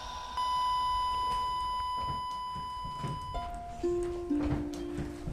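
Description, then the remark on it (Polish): A wristwatch alarm beeps in a steady electronic tone that shifts pitch partway through, playing a short melody of clear, close tones over faint background noise, with no talking. “To jest ten zegarek.”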